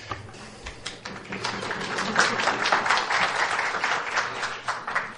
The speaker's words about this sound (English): I would suggest that if people feel the need to applaud, I wouldn't object.